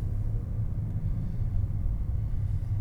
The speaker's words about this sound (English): Bus. Go ahead, bus. Yeah, you're welcome.